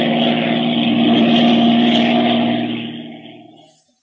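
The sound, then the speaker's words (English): A propeller airplane engine drones steadily with a deep, even hum, loud and continuous, as the plane circles in flight with a tampered undercarriage, then fades away over the last second or so. “We've enough gas for about another half hour. We'll have to keep circling around until then.”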